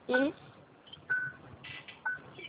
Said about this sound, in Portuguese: Você está ouvindo essa porra apitando que eu tô sem cinto? Sim, tô ouvindo. Inclusive, coloco o cinto.